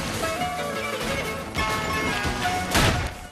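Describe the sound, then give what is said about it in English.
A window is shot out by gunfire: sharp gunshots ring out and glass smashes with a loud, bright crash near the end, over a dense, continuous wash of background noise. “And opens fire. A window is shot out.”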